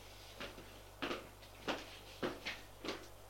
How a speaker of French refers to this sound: il ouvre une porte, entrez.